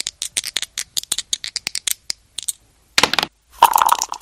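Dice clatter in a shaker cup at COPE Lorca radio in Lorca, Spain, with a quick, uneven run of sharp clicks for a couple of seconds, then two louder rattling bursts as they tumble out. No one speaks.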